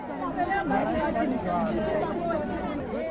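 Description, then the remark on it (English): A crowd gathered at a municipal office in Soweto to complain about shoddy homes built by the ANC-led council, many people chattering at once, overlapping voices forming a steady, fairly loud hubbub with no single speaker standing out. “A crowd gathers at a municipal office in Soweto to complain about shoddy homes built by the ANC-led council.”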